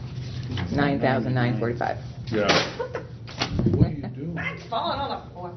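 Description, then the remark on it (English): Several objects, knocked off by a person, clatter and thud onto a hard floor in a few sharp bursts, while people keep talking throughout. “Mine's falling on the floor. No, well, it's actually. Larry's knocking them off.”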